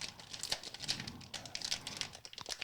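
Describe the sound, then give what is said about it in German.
Crinkly plastic rustling of a snack bag of sticks being torn open, the bag opening only to the middle, a dense run of sharp crackles and crumples, with no talking. “Auf den Philippinen die Tüte auf. Gut. Zack, offen.”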